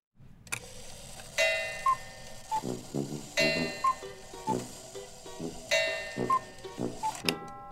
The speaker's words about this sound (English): Earlier this week, I spent some time at the Sun and Clock Shop on the Upper East Side of Manhattan. It's an Aladdin's Cave of Wonders, crammed with clocks of every style and age, some working, many not, and they're all making a lot of different noise